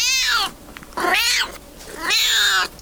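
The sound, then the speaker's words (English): A small smoky grey cat meows three times in a row, loud, each cry drawn out for about half a second with short pauses between, no other sounds around it. “Tommy meows, hoping Adam will get that it's a yes.”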